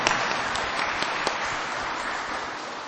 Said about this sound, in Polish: Brawa dla pani dyrektor. Brawa dla wszystkich nauczycieli. Bardzo serdecznie. Brawa dla naszych przyjaciół. Brawa dla Pana Jezusa. I brawa dla Matki Bożej.